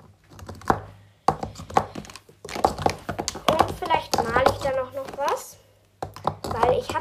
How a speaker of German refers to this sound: also ich habe die Farben gerade so aus ihrer Box rausgeholt und habe gesehen, da waren einfach zwei Stifte dabei, die habe ich nie gesehen.